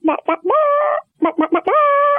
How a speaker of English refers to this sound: she realized that the chickens have given her their own special name when they see her, want a treat or some cuddle time. And it sounds quite regal.